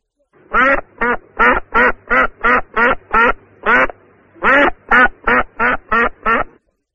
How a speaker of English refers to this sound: I hear a duck.